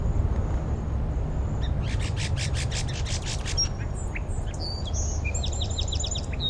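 A sparrow sings a rapid run of buzzy, high-pitched notes, then a jumble of thin chirps and whistled phrases, over a steady low rumble of background noise.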